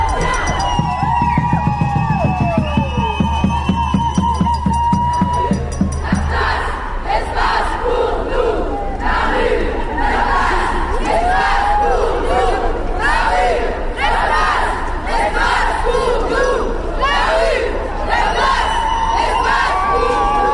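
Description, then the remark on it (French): A crowd at a night-time demonstration against violence against women in Grenoble on 25 November chants loudly and rhythmically, many voices rising and falling together in repeated bursts, with shouts and whoops mixed in and a low rumble underneath for the first few seconds. “s'est déroulée le 25 novembre à Grenoble une manifestation de nuit en mixité femmes, gwyn et trans.”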